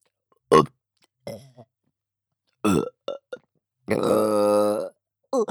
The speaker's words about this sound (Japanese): ゲップをご主人様にも聞かせたくて、ゲップしちゃうたびに感じちゃいます。